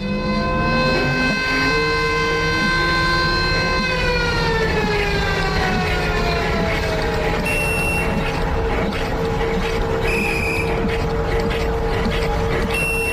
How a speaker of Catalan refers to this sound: Xiulet. Era una manera de representar un dels passatges que passaven en l'espectacle.